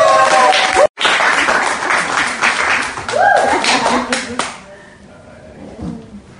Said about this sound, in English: And the crowd goes wild!